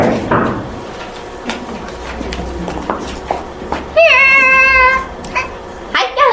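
Several sharp knocks rap on a door at an uneven pace as a boy knocks at the front door, followed by a brief high, wavering cry and a faint steady hum underneath.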